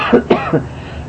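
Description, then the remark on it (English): A speaker coughs and clears their throat, saying they got a fly or something, in three short, rough bursts, the middle one sharpest, with a faint voiced rasp trailing off at the end. “Excuse me, got a fly or something.”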